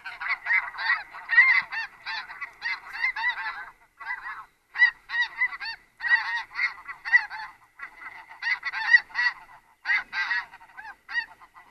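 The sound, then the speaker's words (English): A flock of migrating geese honking, many overlapping calls in rapid bursts with brief lulls, a steady chorus of fairly high, yelping honks and no voices. “So again, if you train your ear, you can kind of hear that the difference, the highness of that call as opposed to the lower honking.”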